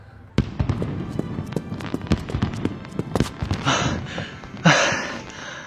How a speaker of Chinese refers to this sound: 楼下的烟花秀开始啦，我去看看还有没有好位置。